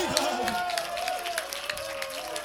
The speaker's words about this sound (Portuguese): Palmas pro fã-clube!